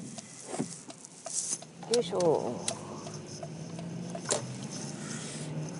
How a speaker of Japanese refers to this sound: うわ風強いよ。 こんな天気悪いと一回上がったらもう今日は一日外に出ないかもしれないしね。